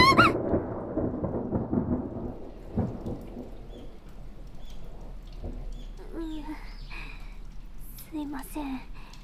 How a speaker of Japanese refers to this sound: 雨が強いと思ったら雷が…え？雷が怖いのかって？ いえ、別に苦手ってわけでは…